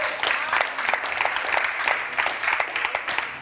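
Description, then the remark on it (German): A crowd applauds steadily for a few seconds, many hands clapping in a dense, even patter that stays fairly loud throughout, with no one speaking over it. “Bei mir steht jetzt Klatschen.”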